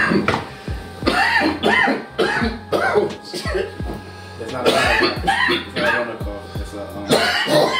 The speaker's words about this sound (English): It's not a Rona cough. It's a weed cough, man. You know what I mean? It's just a little delayed. That's what happens when you smoke so much pipe.